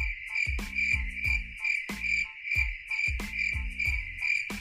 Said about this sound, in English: She's like, can you give me crickets for that? Like, yeah, you want crickets? Yeah, I want crickets.